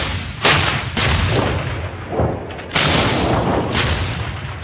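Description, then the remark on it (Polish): German artillery opens fire on targets across the border at dawn on 22 June 1941: a barrage thunders in a series of heavy booms, roughly five sharp blasts at uneven intervals over a constant rumbling roar, loud with no voices. “Aż o świcie 22 czerwca 1941 roku artyleria niemiecka otworzyła ogień na cele po drugiej stronie granicy, a z przygranicznych lotnisk wystartowały niemieckie bombowce.”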